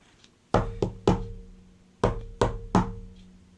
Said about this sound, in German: manchmal wartet er nicht nur, sondern er kommt zu dir. Und dann klopft er an der Tür.